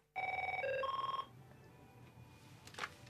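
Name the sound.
telephone ringing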